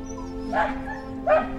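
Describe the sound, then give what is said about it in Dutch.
A small dog gives two short, high-pitched whining yips about a second apart, over a steady low background hum. “Ik dacht dat het kleine babyvogeltjes waren, maar het was een hondje.”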